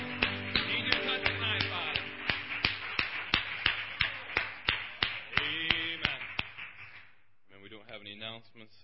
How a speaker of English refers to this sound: Give the Lord a round of applause, saints.